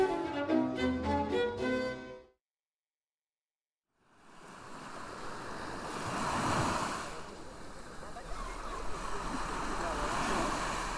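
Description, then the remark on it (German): After a short voice and a moment of silence, rough harbour water on the Irish Sea churns in a storm that has swept the coast for days: a steady, loud wash of surging waves with gusting wind, swelling around the middle and staying dense to the end. “Das Wasser im Hafen an der irischen See ist aufgewühlt. Seit Tagen fegt ein Sturm über die Küste.”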